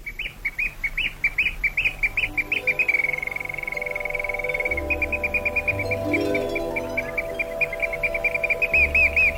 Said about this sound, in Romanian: Privighetoarea cântă mai departe, iar împăratul căzu într-un somn adânc, binefăcător.